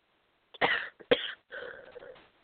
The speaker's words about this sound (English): Please excuse me for the interruptions when I cough.